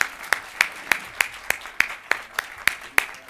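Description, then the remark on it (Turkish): A festival audience applauds the Havadan Sudan team, the festival's first guests, coming on stage: a steady, even beat of sharp claps, about a dozen in quick succession at a moderate volume, with a soft wash of crowd noise beneath. “Havadan Sudan ekibi geliyor alkışlarınızla.”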